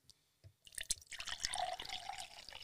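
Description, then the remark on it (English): A couple of faint drips, then liquid pours steadily from a bottle into a glass, a bubbling gurgle with a ringing tone that rises as the glass fills. No one speaks. “Look, if you want to play that game, I can fill my glass from this bottle.”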